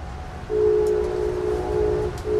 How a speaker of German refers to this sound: Ich sitze im Zug von New York City nach Washington, D.C. Sein volles Tempo von 200 Stundenkilometern reizt der Amtrak nur selten aus. Gute 3 Stunden dauert die Fahrt. Der Waggon ist fast voll.